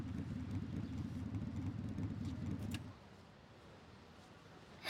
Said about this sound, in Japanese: これ君のバイク？いい音してるね。ちょっと見ていい？